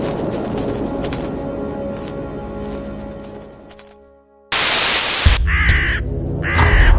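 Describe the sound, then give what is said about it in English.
After a sustained tonal passage fades and a burst of hiss cuts in, a raven gives two loud, harsh caws about a second apart, raspy over the noise. “And now, everybody's favorite scarecrow, the Raven.”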